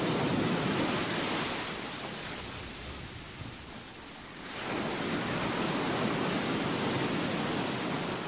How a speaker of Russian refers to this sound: Ему вдруг вспомнилось, как приятно сидеть в темноте, вместе с маленьким сыном, под шум прибоя, у самой кромки волн. Так, чтобы свежие, соленые брызги отдавали телу.